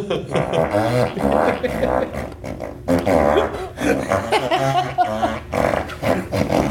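A string of loud, raspy fart noises from a fartophone, buzzy and wobbling in pitch, repeating with brief gaps between blasts, with no talking over them.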